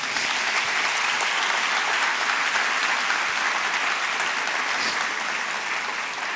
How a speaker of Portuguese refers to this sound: Você pode aplaudir ao nosso Deus?